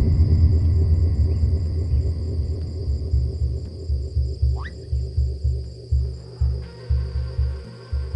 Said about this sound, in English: Thunder, thunder. Wakes me up.